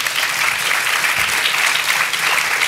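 Steady, sustained applause from an audience welcoming women speakers, a dense wash of clapping that stays loud and even throughout with no voices standing out.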